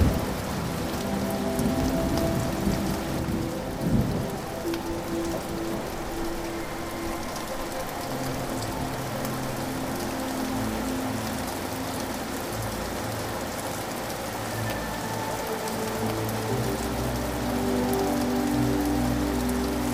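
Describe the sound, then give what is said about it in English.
Steady rain falls and patters on a surface, a dense, even hiss that continues throughout, with low rumbling undertones like thunder. “As you continue to breathe, let the rain wash away all that you have been holding.”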